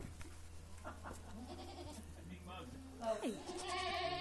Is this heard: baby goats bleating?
yes